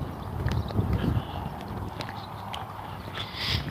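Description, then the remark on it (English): Boots tread along in a steady series of dull, thudding footsteps, moderately loud over a low rumbling background, with occasional sharper scuffs as the walker keeps moving. “But she said it wasn't dead air, because you hear my boots, you hear the birds, you hear everything going on around me, even though I'm not talking.”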